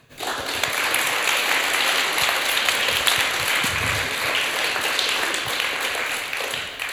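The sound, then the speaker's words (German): The audience at the U20 Poetry Slam Nürnberg Fürth in the Kulturforum applauds steadily for several seconds, a dense wash of many hands clapping at once, sustained and fairly loud without anyone speaking over it. “Macht mal einen großen Applaus für euch.”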